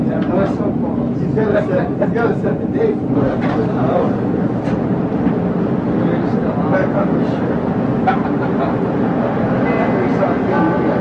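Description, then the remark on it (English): A subway train rumbles steadily along the tracks toward Jackson station, a loud, continuous roar with rattling and clatter throughout, while muffled voices are heard faintly beneath the noise. “Doors open on the left at Jackson. For the first time out, transfer to room on trains at Jackson.”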